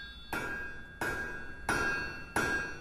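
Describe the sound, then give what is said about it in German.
A blacksmith in a renovated mill house in Alt St. Johann strikes a thin iron rod with a hammer four times at a slow, steady pace, forging it into a clapper for a small bell. Each clang is sharp, followed by a bright metallic ring that lingers until the next blow. “Der Schmied haut mit dem Hammer einen feinen Eisenstab zu einem Hebi für eine kleine Schelle zusammen.”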